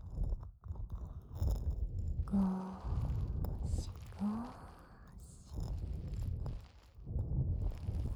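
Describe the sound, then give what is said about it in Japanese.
Soft, dense crackling of small foam bubbles popping as foam in the ears is massaged with fingers, a steady fizzy texture with muffled rubbing underneath, briefly broken by a couple of low rising hum-like tones. “小さな泡がプチプチ潰れる音が聞こえますか？”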